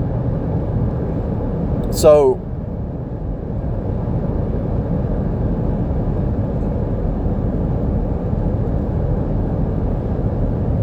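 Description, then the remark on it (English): Steady low road rumble from a car driving down a highway in heavy traffic fills the whole recording, a dense continuous drone of tyres and engine, with a man briefly speaking a single word near the start. “I'm going down the highway, that's why I'm kind of stalling on my thoughts here. Traffic's kind of crazy.”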